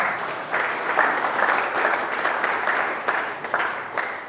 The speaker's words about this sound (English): Yeah, give her a clap. I would.